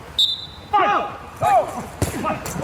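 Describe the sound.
Two quick running footsteps thud on hard ground, followed by a firm kick of a ball as a shot at goal in football played by blind and sighted players, the sharp impacts standing out over faint background voices.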